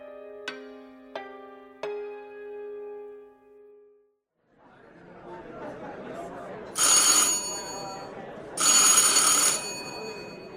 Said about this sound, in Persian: صدای زنگ در که دو بار پشت سر هم زده می شد نشون از اومدن آقای حیدری بود.